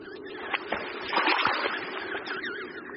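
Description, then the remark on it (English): A small splash as a down-covered penguin chick drops into the water while others get ready to join, followed by continuous churning and sloshing, with a few sharper slaps scattered through the busy wash. “Another chick enters. Others get ready to join.”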